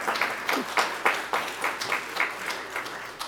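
An audience at a Lord's Day church service applauds steadily, many hands clapping in a dense, even patter of moderate loudness that carries on throughout without any voices.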